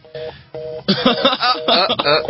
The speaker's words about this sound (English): Well, while we're waiting. Shh. Phone's ringing.